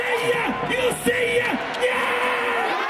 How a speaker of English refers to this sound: You know, literally from first pitch to final out, cheering. Every team has a cheerleading squad, you know, set up on the stage, either first base or third base side.